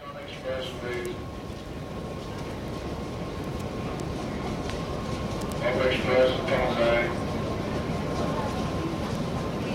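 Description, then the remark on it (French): A New York subway train runs with a steady rumble and a thin sustained whine, swelling briefly louder midway before settling back, with faint indistinct voices in the background. “À New York, l'empire souterrain du métro a mauvaise réputation.”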